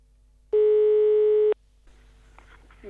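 A single steady electronic ringback tone of an outgoing phone call to a competition winner sounds for about a second, loud and clear over a phone line, followed by faint line noise and quiet, muffled activity.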